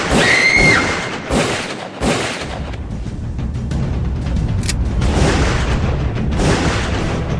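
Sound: gunshots fired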